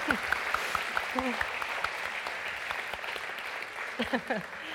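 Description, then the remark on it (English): An audience claps steadily for a man as he comes to the stage, in a dense, sustained wash of applause, with scattered whoops and voices rising through it, swelling again near the end. “So let's give him a big round of applause as he comes to the stage.”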